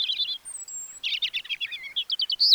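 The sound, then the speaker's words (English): A European robin, a migratory songbird, sings alone, a quick run of high, thin warbling phrases broken by a pure whistled note and ending in rapid trills. “While a bird's eye view lets a migratory songbird like this European robin keep track of important landmarks along its route, a special protein in its eyes might let it see Earth's magnetic field.”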